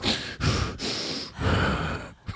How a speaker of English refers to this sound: Is that all you? The labored breathing.